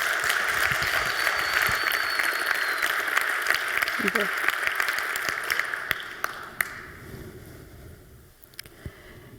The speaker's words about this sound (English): Please have a big, warm round of applause